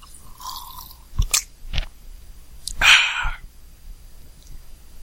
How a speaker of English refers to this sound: And now, after I take a sip of water,